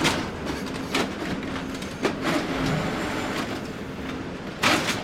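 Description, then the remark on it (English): A recycling baler compresses sorted recyclables such as paper, plastic and cardboard into huge cubes, running with a loud, steady mechanical rumble and grinding, broken by a few sharp metallic clanks at irregular intervals. No one speaks. “So after everything has been sorted by both humans and machines, the last step is that it gets sent through a baler, which churns out these huge, giant cubes of different materials.”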